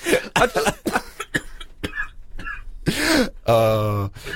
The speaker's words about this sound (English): He's got a little bit of a cough, bless him.